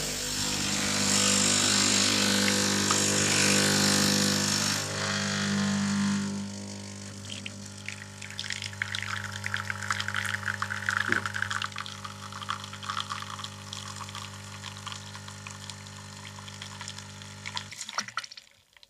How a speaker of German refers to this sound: Jetzt spanne ich das ein hier in diesen Bajonettverschluss von der Siebträgermaschine. Und dann mit einer Tasse halte ich drunter. Wasser ist hoffentlich drin im Kessel. Und jetzt schaue ich mal, wie der Pumpendruck ist.